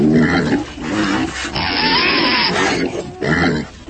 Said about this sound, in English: Anyway, this pig farmer, he says, folks, I gotta warn you, some of my giant feral hogs have got loose and... A herd of giant feral hogs can be seen galloping across the landscape in slow motion.